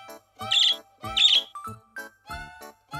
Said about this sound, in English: The girl in the yellow skirt has a bird. My bird is a good singer, says the girl.